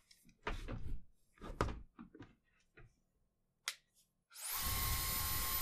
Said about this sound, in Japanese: じゃあ、ドライヤーかけていくね。